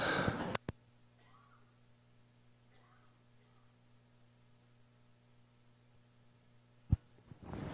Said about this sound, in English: Now, I believe with all of my heart that I'm about ready to cough again.